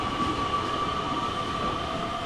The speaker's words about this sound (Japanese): 市場を出ると目の前は駅、踏切の音が鳴っています。この踏切が開くのを待つ時間ものんびりしてていいんですよね。